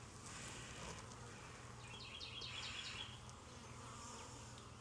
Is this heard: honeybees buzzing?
yes